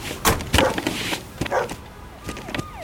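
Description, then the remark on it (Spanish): Several short, sharp dog barks come in quick irregular bursts, loud, as dogs are brought in to search a truck during an inspection, followed by a quieter stretch with thin, sliding whine-like tones near the end. “Morris, los bajos. Venga, con los perros.”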